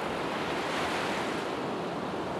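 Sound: sea waves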